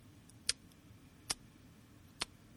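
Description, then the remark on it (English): A clock ticks three times, each tick a crisp, sharp click spaced just under a second apart, over a faint low background rumble. “But sometimes I'm sitting in the bathtub, and if I don't have the kanken on, all I can hear is the clock.”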